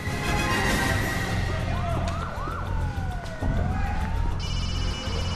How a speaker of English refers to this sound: an unmarked police car speeds off behind the limousine.